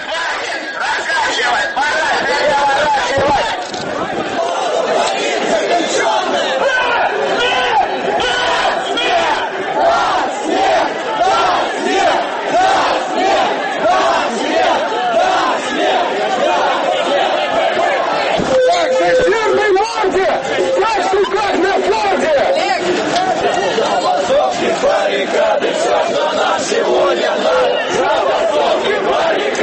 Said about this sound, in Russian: Давайте послушаем фрагмент вашего видеорепортажа, который есть на YouTube, и послушаем, что кричали участники этого марша.